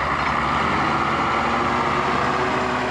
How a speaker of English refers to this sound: A road grader repairs a soy highway washed out by torrential rains. Brazil is rapidly paving a path through the Cerrado frontier to its future.